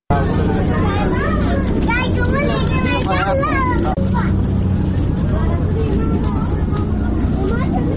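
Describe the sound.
Steady, loud rush of running water flowing through the alleys and roads of Kabul, Afghanistan, after recent rains and floods, with a hubbub of overlapping voices and passing traffic mixed into the continuous noise.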